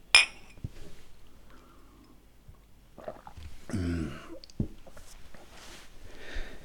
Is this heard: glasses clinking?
yes